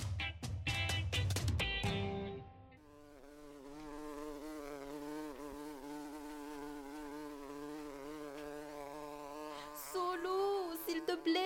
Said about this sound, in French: Aide-moi à faire sortir cet abeille de la maison.